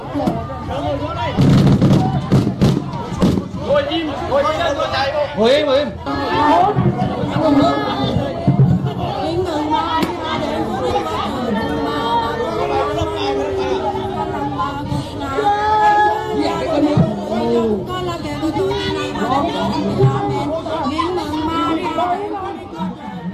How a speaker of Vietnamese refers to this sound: Trong clip người ta còn nghe thấy cả tiếng như là tiếng súng nổ.